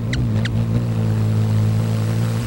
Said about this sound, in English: Other birds flap with power on the downstroke only, so there's no rapidly changing pressure difference when they fly, making them much quieter. Their wings might whoosh, but only a hummingbird's hum.